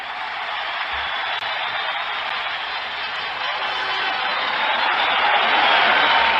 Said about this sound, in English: All right, enough of the applause. I want to hear the announcer.